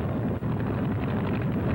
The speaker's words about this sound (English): Next comes the training flight, so let the motor roar.